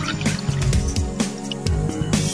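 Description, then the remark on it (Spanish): Water drips from a tap in a steady rhythm, about two drops a second, each a clear close plink, over a soft, sustained musical background. “Cierra bien los grifos, pues una gota por segundo se convierte en 30 litros al día.”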